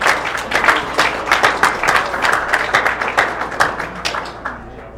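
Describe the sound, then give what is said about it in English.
An audience applauds to welcome the panel's moderator, with a dense, sustained patter of many hands clapping at once, holding steady for several seconds before thinning slightly toward the end. “If we can give him a round of applause, I'd appreciate it.”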